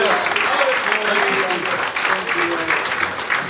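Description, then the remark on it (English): An audience claps hands as an offering to the Lord, in sustained, dense applause, loud and steady throughout, with faint voices calling out underneath. “Another hand clap offering.”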